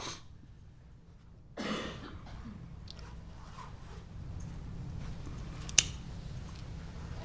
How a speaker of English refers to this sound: A little coughing here and there.